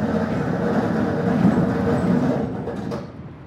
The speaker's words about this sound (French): Et la porte se referme.